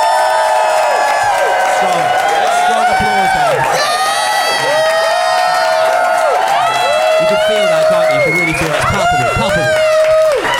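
A live audience in Phoenix claps and cheers loudly and steadily for about ten seconds, applauding to vote for one side of a debate, with dense applause under overlapping whoops and high shouts rising and falling throughout.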